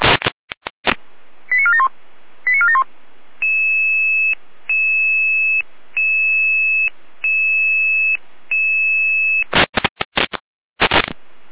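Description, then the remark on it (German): A fire brigade dispatch alarm call for a triggered home smoke detector in Rudolstadt: quick bursts of two-tone beeps, then a steady run of five long, evenly spaced tones, framed by crackly radio bursts at the start and end. “Leitschwein Alarmruf.”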